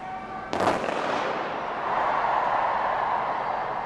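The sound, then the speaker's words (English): A single sharp ceremonial artillery salute blast cracks out amid cheers for the Queen on a rain-soaked Tuesday afternoon, its boom decaying into a long rumbling tail over a steady wash of crowd noise. “Amid the cheers and artillery salutes and the ceremonial flyover, former Prime Minister John Major was asked why he thinks so many turned out on what was by now a rain-soaked Tuesday afternoon to sing "God Save the Queen" to an 86-year-old lady.”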